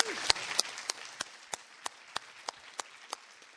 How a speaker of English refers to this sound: So we're really glad for them. So I think they deserve another round of applause myself.